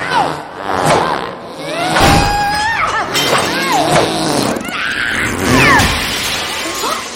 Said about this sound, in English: She crashes on the balcony.